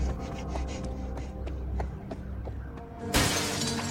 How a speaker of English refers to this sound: Liz crashes through a plate-glass window at the bungalow and crawls away through the rain